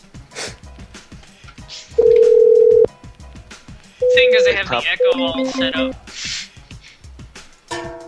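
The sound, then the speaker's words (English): A telephone call being placed: a steady, loud phone tone hums for about a second, then a quick run of electronic beeps and tones follows, with people talking before and after. “You guys get me a number and I'll call the next Brad McDonald's.”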